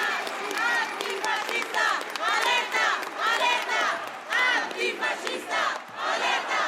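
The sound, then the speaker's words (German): Hundreds of counter-protesters against Martin Sellner shout and chant on the market square in Marburg on a hot Monday afternoon in late July, many voices overlapping in loud, continuous waves that swell and dip every second or so without a break. “Und deshalb ist in Marburg der Marktplatz gut gefüllt mit Gegendemonstrantinnen.”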